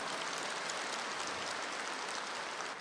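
A crowd applauds with steady, dense clapping that holds an even loudness for about three seconds, with no voices over it.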